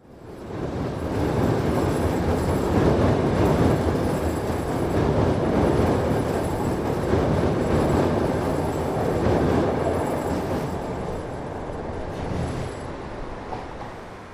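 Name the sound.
train running on rails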